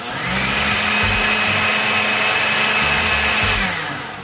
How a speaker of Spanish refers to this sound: Al día siguiente, escurrimos la soya y la licuamos con las 8 tazas de agua hasta obtener una mezcla homogénea.